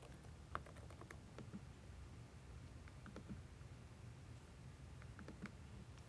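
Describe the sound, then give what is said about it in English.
Quick, irregular keyboard clicks tap out in short bursts, light and crisp, over a low steady hum with no one speaking, as someone types "Windows speech" on a computer. “By just typing in Windows speech.”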